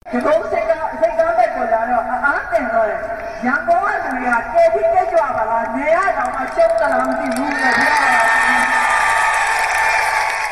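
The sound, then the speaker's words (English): A crowd dressed in red cheers at a campaign rally for opposition leader Aung San Suu Kyi's National League for Democracy before Myanmar's parliamentary election, many voices shouting and calling together in a steady roar that swells louder and noisier toward the end. “Excited crowds outfitted in red and cheering for opposition leader Aung San Suu Kyi's National League for Democracy flocked to hear her during the campaign for Myanmar's national parliament.”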